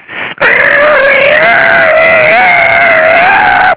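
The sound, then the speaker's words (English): A loud, drawn-out squeak from a stool, one continuous high whining squeal that wavers slightly in pitch for about three seconds after a brief opening burst. “You know, a couple of weeks later when we came back in there to eat, that stool had been oiled and it didn't squeak like that anymore.”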